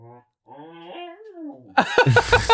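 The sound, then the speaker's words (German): A dog growls at the people present, starting with a soft, drawn-out wavering grumble that swells into a louder, rougher burst of growling at the end. “Wir werden hier gerade wirklich von einem Hund angeknurrt.”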